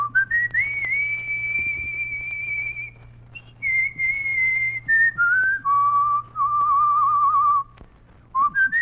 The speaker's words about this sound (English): Just whistle something you've always wanted to hear done up right. Something frantic. Whistle one.